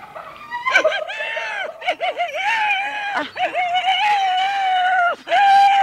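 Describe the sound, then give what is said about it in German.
A person mimics a hyena with loud, high-pitched whooping and giggling cries that waver up and down, continuing for several seconds with only brief breaks. “Ah, du bist ja furchtbar als Hyäne.”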